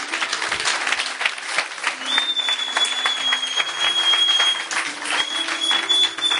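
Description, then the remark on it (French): A church audience applauding for Jesus, steadily and loudly for several seconds, a dense crackle of many hands, with a thin high sustained tone sounding over it partway through. “Applaudissez pour Jésus.”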